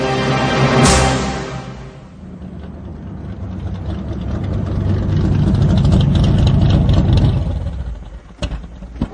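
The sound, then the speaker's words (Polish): A car engine idles outside the doors of a Victorian palace at Bletchley Park, a steady low rumble that swells slightly midway, then cuts out near the end with a couple of sharp clicks. No one speaks. “kuśtykał w stronę komandora Travisa, który wysiadł z samochodu przed drzwiami wiktoriańskiego pałacu”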